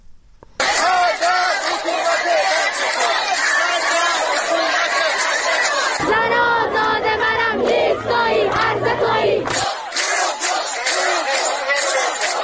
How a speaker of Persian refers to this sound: بر اساس ویدئوهای منتشر شده روز شنبه، شماری از شهروندان در شاهین شهر اصفهان با تجمع در برابر اداره آموزش و پرورش به مسمومیت‌های زنجیره‌ای در مدارس اعتراض کردند و شعارهایی از قبیل مرگ بر این حکومت بچه کش سر دادند.